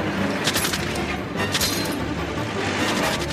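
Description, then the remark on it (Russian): Loud bursts of gunfire as bandits in a truck, turning back at a blocked road, shoot at police operatives' cars, cracking out in quick clusters, several sharp shots at a time, over a dense, constant roar of noise. No one speaks. “Стреляют по машинам оперативников.”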